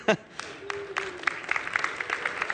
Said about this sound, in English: We're going to pretend that's applause for my mom because she's listening still.